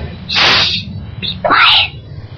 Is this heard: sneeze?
yes